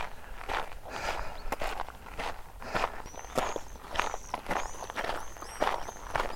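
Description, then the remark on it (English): Steady footsteps of a person walking along an outdoor path at an even pace, each step a soft crunch, while birds chirp intermittently in the background. No one speaks. “I think I'll continue walking here so I won't scare the horse.”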